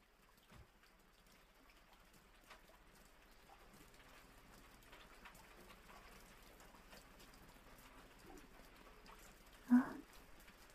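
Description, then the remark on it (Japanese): Steady rain patters softly and continuously, a gentle wash of drops on a surface with scattered brighter taps, and one louder knock near the end. “雨降ってきたみたい。”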